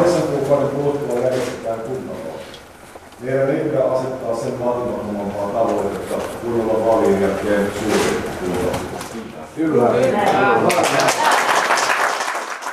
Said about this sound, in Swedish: Det är ordförande Jussi Halla-ahos mål och han fick rikligt med applåder på den sannfinländska riksdagsgruppens möte i Åbo.